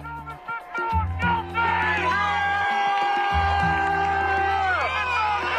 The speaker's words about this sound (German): Jubel, Freudenschreie, Tränen der Erleichterung und Sprechchöre mit George Floyds Namen. In Minneapolis haben sich am Dienstagabend hunderte Menschen vor dem Gerichtsgebäude getroffen und buchstäblich den Atem angehalten.